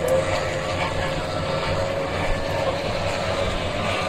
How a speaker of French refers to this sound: Je vous dis au revoir sous les moteurs des hors-bords.